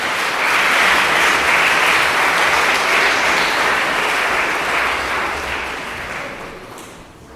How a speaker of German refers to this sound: Sehr gut, vielen Dank, das war euer Applaus.